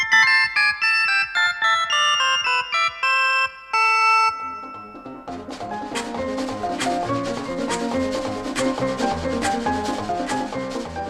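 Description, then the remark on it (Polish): A short, bright radio station jingle of quick staccato notes played on an instrument, recorded at a philharmonic with some tricks, ending after a few seconds and giving way to a busier, rustling background of mixed noise. “No dobrze, wygrałeś konkurs nasz wewnętrzny na sygnał.”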